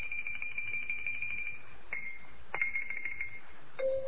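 Faint xylophone notes played next door ring out, a high tone sustained and then restruck a few times before a final lower note, with no voices.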